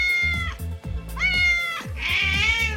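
A cat meows loudly, three or four drawn-out, wavering yowls in quick succession, with a low steady hum running underneath.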